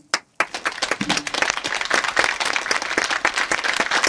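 A short burst of applause: a single clap, then dense, steady clapping from a small group that builds quickly and continues evenly for several seconds.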